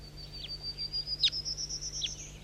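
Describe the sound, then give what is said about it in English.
Birds calling close by, with three short, sharp downward-sweeping chirps spaced about a second apart over a steady, thin high-pitched insect-like whine. Fairly faint, with no talking. “Start recording these birds that are close now.”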